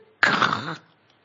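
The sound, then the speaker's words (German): A person imitates an angry growl with one short, harsh, raspy burst of voice lasting about half a second, loud, then silence. “Ich könnte manchmal so knurren.”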